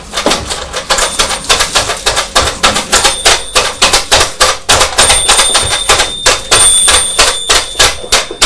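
A pet bird, Lily, rings a small toy bell that clatters and jingles rapidly and irregularly as it is knocked about, loud, with a thin high ringing tone sustained through the second half. No one speaks.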